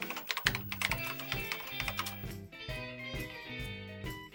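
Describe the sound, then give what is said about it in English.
Rapid, irregular clicking of keys on a computer keyboard, fairly loud, running steadily over a soft repeating musical bed with no voices. “You know, I just can't get enough of that typing sound, so I'll read you an email I got this week.”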